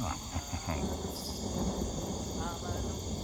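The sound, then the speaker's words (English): A low, rolling rumble of thunder from a brewing storm carries on steadily for a few seconds, with a constant high chorus of chirping insects layered over it. “There's an ominous storm brewing out there.”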